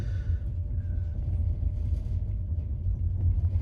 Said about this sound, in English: A bullet train, this is not. It's not going very fast. But we've still got a ways to go before we get to Kyiv.